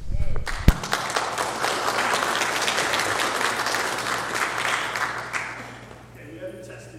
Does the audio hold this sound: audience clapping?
yes